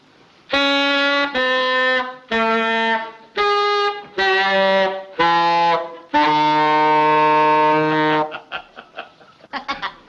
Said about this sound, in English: What are you doing with that saxophone? I'm practicing. I'm going to audition for Ricky's band today, you know. Oh, I'm glad I found out it was you making that noise. I thought there was something wrong with the plumbing.